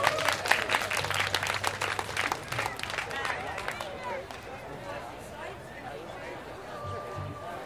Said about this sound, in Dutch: We hebben nu gewoon een geweldige geluidsman hier. Geef hem even een applaus.